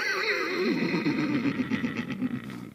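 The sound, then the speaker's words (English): A person imitates a horse whinny with a sustained, wavering neigh that shakes and trembles for nearly three seconds, loud, with a slight echo and no talking. “So they have these massive lungs, this huge echo chamber that they have, so you have very deep sounds, but then also those really familiar sounds, the whinnying, the high-pitched.”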